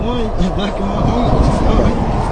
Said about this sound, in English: Would you mind shutting the car off, please?